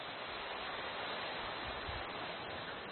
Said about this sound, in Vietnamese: Xin ra đại chúng chúng ta cho một tràng pháo tay.